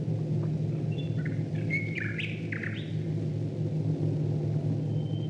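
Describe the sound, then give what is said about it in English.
Birdsong trills and chirps over a steady, heavy drone of Royal Air Force bomber planes passing overhead in a BBC birdsong recording from the Second World War, the low engine rumble continuous and loud throughout while the bird calls come in brief bursts. “But in this recording, you can hear the sound of Royal Air Force bombers flying above the birds.”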